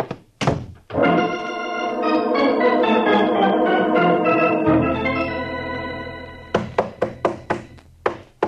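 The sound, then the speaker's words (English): A police sergeant pounds on a locked door: a few heavy thumps, then a sustained swelling musical chord, followed by a run of about seven loud, sharp knocks in quick, uneven succession. No one speaks. “Are you coming on that door, Sergeant? I ain't made a dent in it yet. Well, save your knuckles.”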